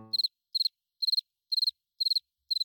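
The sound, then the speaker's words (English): Crickets chirp in a steady rhythm, about two chirps per second, each a quick high trill of three or four pulses, clear and alone against silence after a brief low thud at the start. “Thanks for having my back, Crickets.”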